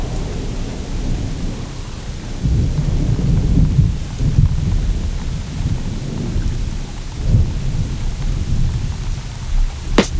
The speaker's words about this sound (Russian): Ливень, кипящий на асфальте, жирный в авто с холодом заходят сопливые пассажиры.